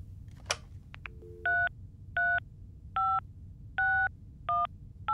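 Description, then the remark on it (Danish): A phone number is dialed on a touch-tone keypad to call Denmark's central motor vehicle register and find the registration number of the boss's car: after a click, six clear beeping tones sound at a steady, unhurried pace over a low background hum, with no one speaking. “Bent ringer til bilregistret.”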